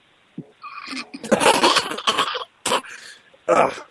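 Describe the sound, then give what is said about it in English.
A harsh bout of coughing with throat clearing: several rough bursts in quick succession, a brief pause, then two more short coughs. No one speaks. “I'm coughing because I deal with diseases all day long.”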